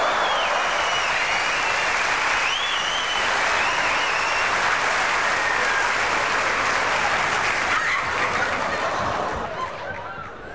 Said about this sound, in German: Der Applaus ist gerechtfertigt.